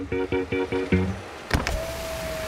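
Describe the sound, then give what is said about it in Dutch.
A big black SUV's power window slides down: a sharp clunk, then a steady electric motor whine that holds one pitch, following a short run of rhythmic, tonal pulses. No one speaks. “Maar wat ik dan plots zie, een dikke zwarte SUV. Ze ruim, schuif naar beneden.”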